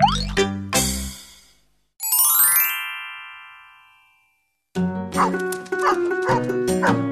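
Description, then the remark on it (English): A dog named Buddy barks a few times in quick, loud bursts, then a bright chime rings out and fades before more barking and yips resume. “This is Buddy, my dog.”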